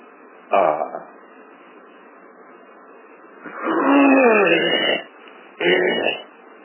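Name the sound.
throat clearing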